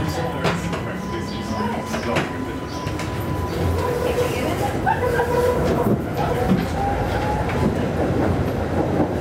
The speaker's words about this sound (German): Und weiter geht's mit dem Streetcar in Richtung Canal Street.